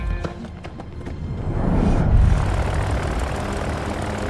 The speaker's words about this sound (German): In der Halle springt der Motor des Flugzeugs an. Es rollt langsam aus dem Hangar auf die Startbahn.